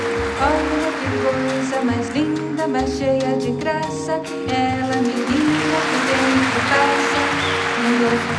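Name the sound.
concert audience applause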